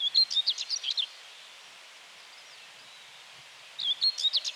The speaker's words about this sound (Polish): Cały czas skowronek nam towarzyszy, no prawie cały czas, ale takie tło piękne.